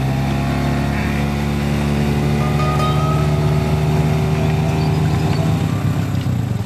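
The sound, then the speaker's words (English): An outboard motor drones steadily on a river just downstream from Maitland, a loud, continuous low engine hum with strong buzzing harmonics that holds an even pitch throughout, while its prop bumps on the river bottom, with no voices. “The prop of the motor is bumping on the bottom of the river at the moment, so we can't really take it much further, but we're just downstream from Maitland”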